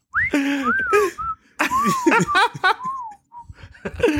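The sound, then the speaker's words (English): Someone whistles a string of quirky, swooping chirps in imitation of little creatures from a video game, the short rising and falling notes fairly loud, broken up by bursts of laughter. “Yeah, and then whenever they're around, you just hear them going... I'm trying to think of a more stupid whistle I could do.”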